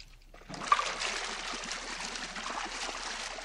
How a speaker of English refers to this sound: It's a whirlpool bath, sir. I think you'll enjoy it.